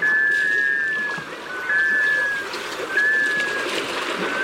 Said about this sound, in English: You're hearing the call of a male black scoter. Black scoters are sea ducks that spend the winter on saltwater bays.